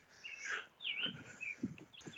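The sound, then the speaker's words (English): Birds in a backyard chirp loudly and continuously, a busy mix of high tweets and warbling calls overlapping one another with no voices present. “Jesus Christ, your birds are loud.”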